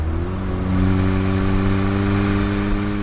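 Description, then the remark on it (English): A car engine revs and accelerates as the driver opens it up on a stretch of road with no cameras. Its low droning hum holds steady with strong harmonic tones that rise slightly in pitch over about three seconds, loud and continuous with no talking. “Right, no cameras on this stretch. Let's open her up a bit.”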